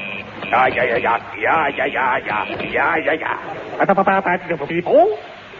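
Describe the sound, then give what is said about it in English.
A voice imitates radio Morse code to signal Von Heidelberger, warbling up and down, then breaks into a quick run of short, rhythmic beeping pulses, loud, ending on a rising squeal. “Quick, I'll get Von Heidelberger on the Morse code.”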